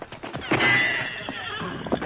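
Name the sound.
horse neighing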